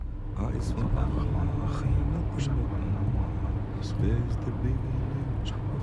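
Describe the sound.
A steady, low engine rumble and road drone fill the cabin of a moving car, with muffled, indistinct voices underneath and occasional brief higher-pitched clicks.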